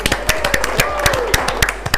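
Audience applause on the show De Primerísimo Orden welcoming back a returning member, a steady patter of many overlapping handclaps at moderate loudness, with a faint whistle-like tone gliding up and back down partway through. No one speaks.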